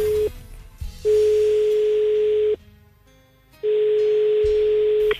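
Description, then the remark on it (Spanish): An outgoing call rings back: two long, steady single-pitch tones, each about a second and a half, separated by a quiet gap, loud and clear with no talking. “Llama a ese teléfono.”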